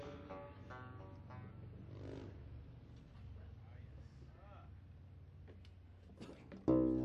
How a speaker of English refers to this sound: It's being welcomed by the motorcycles.